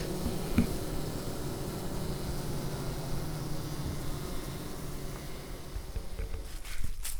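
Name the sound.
bees buzzing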